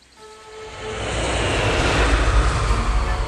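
An airplane engine roars steadily, swelling from a softer start into a loud, broad rushing drone with deep low rumble and hissing highs, no voices present.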